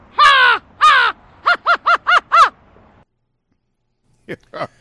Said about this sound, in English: what other bird call we got? Let's see. What do we have? We have the Celtics. American Crow.